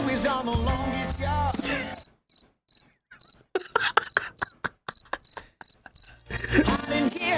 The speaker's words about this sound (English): Can you tell I'm getting better at this sound bed? You are. You found the crickets, which is pretty much what we get here on this show anyway.